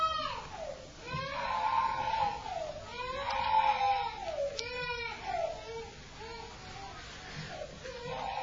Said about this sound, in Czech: To nevadí, že tady máme pláč, já jsem to myslím, že už někde říkal, že ve shromáždění, kde nepláčou děti, by měli plakat dospělí.